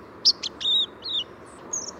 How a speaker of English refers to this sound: In the fall, listen for white-throated sparrows rehearsing their song. Inexperienced young birds, hatched during the preceding summer months, sometimes begin with disorganized jumbles of notes, known as subsongs.